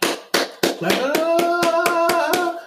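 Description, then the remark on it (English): A slow clap: about ten sharp handclaps at an even, deliberate pace, with a sustained hummed or sung voice rising underneath partway through. “Slow clap.”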